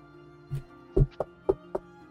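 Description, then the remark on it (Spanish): Five sharp knocks on a door, one soft tap followed by a quicker, uneven run of four louder raps, heard up close over a faint steady hum with no voices. “¿Puedo intentar darle un knock, knock, knock a la puerta?”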